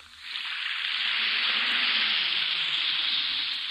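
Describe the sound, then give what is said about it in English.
An effervescent Alka-Seltzer antacid tablet fizzes steadily in water, a bright, dense crackling hiss that swells up within the first half second and holds at an even level throughout, with no voices. “Listen to it fizz.”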